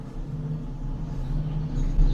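A drill runs on the street, giving off a steady, low mechanical drone with a humming, engine-like tone that holds constant and swells slightly toward the end. No one speaks.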